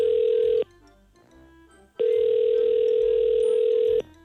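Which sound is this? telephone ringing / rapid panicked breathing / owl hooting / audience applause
telephone ringing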